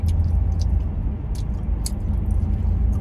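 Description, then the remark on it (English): Loud, wet open-mouth chewing with sticky smacking clicks recurring every half second or so over a steady low rumble, a person deliberately imitating people who chew their food with their mouth open. “If it's one thing that gets my gears all fucking pissed off and grinded up, it's people that chew their food with their fucking mouth open.”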